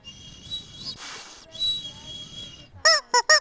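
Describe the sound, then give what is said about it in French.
A plastic toy chicken, part of a set of instruments made from recycled materials, gives a long, wheezy squeaking drone, then three loud, sharp squawks in quick succession near the end, honking like a goose. “Un petit poulet en plastique, voilà, tout un instrumentarium qui est fait vraiment à partir de récup.”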